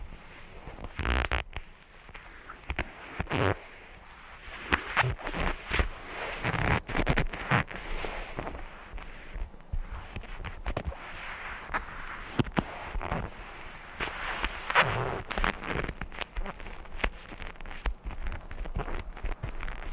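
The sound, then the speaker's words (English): 50-year-old vinyl on a motorcycle seat being pressed and rubbed, giving a steady run of crinkly, creaking and scuffing noises with irregular sharp bursts, and no voices. “I want to hear what the seat sounds like. The seat is 50-year-old vinyl.”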